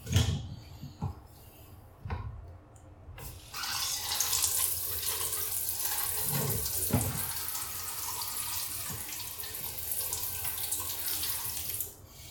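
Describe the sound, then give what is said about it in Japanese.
A few brief splashes of urine poured out of a cup, then a steady hiss of shower water spraying continuously to rinse it away until it cuts off near the end, with no talking. “まずおしっこ流します。で、次に、よいしょ。シャワーで流します。”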